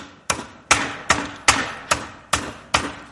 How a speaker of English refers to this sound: I went to the garage. I can hammer nails. I'm good at it.